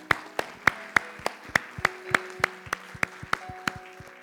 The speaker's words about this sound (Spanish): Dale un aplauso.